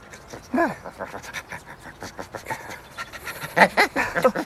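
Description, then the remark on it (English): A dog clinging to a man's leg pants rapidly and excitedly, quick breathy huffs running throughout, with a couple of short whiny, vocal bursts mixed in near the start and toward the end. “He starts shaking and looks down to see Camilla's dog attached to his leg.”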